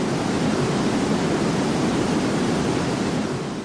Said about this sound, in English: Here's 225,000 cubic feet per second of water rushing over Niagara Falls.